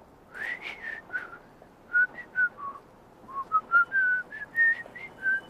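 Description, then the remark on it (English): A person whistles a short, lively tune of clear, bright notes, some gliding and some held, with brief pauses between phrases; fairly loud, no talking. “What do you do when you're happy? I whistle.”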